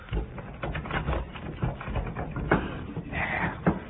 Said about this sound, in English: First, I will lock the door.